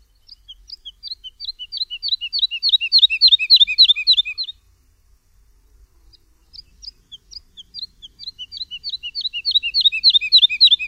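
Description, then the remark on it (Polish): A woodlark sings two phrases of repeated liquid, fluting notes, each series starting soft and swelling louder and faster, separated by a brief pause, with no voices. “Śpiew lerki nie jest zbyt podobny do śpiewu skowronka. Jest zdecydowanie spokojniejszy i dźwięczniejszy.”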